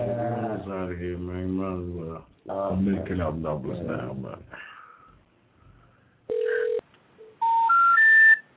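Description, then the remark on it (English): A voice talks, then a pause, then a single steady telephone tone and three short beeps climbing in pitch, the kind of electronic tones heard when a phone number is dialed. “Dialed is not in service.”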